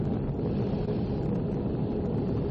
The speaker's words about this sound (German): Das sind F-18. Irgendwo in Kalifornien über einem Gebiet, das nennt sich China Lake.